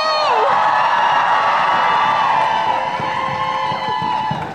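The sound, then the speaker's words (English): A large crowd at Saturday's Women's March cheers and whoops steadily, many voices blending into a loud, sustained roar with scattered high shouts rising above it throughout. “What a crowd!”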